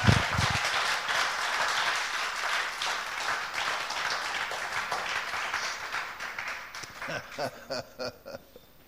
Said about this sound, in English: Let's just give a clap offering to God. Somebody shout, somebody say something.